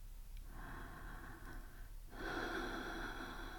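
human body sound, slow deep breathing

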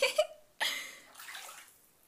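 household object, water splashing

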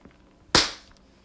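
impact, hand slap on skin

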